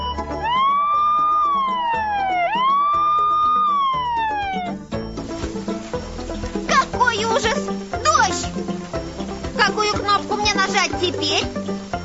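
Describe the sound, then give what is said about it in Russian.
A toy's electronic siren, switched on by pressing a blue button, wails loudly through two rising-and-falling cycles, then cuts off into a busy, tinny jumble of sounds with voices chattering over it. “Голубая кнопка включит сирену.”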